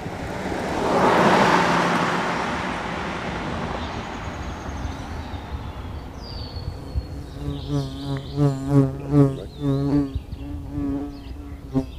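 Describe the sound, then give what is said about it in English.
A bee buzzes loudly right up close, its droning hum rising and wavering as it hovers near, with birds chirping faintly in the background. “We just got a visit up close from a bee, and we can hear the birds as well.”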